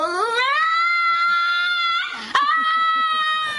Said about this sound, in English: Or maybe your dog sounds something like a woman wailing.